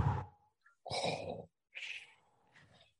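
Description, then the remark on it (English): A voice imitates heavy, mechanical respirator breathing as a villain impression: four rasping breaths alternating in and out, fairly loud, with short gaps of silence between them. “You do the breathing, guys.”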